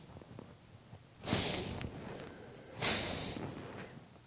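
Two sharp, breathy sniffles a little over a second apart, fairly loud, like someone sniffing back tears, made by a person imitating crying. No talking.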